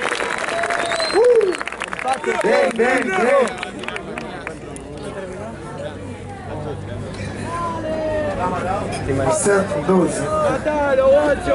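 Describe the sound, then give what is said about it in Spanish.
A crowd at an El Quinto Escalón final claps and cheers loudly and continuously, with excited shouts and whoops rising above a dense wash of applause throughout. “Así que un aplauso muy fuerte para los dos mejores de la fecha.”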